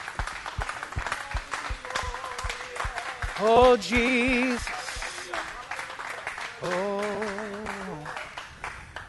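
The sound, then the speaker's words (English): A crowd claps hands steadily throughout in praise to the Lord during a worship song, a dense patter of many palms, while a voice calls out loudly over it a couple of times. “All over this house, can we clap our hands to the Lord?”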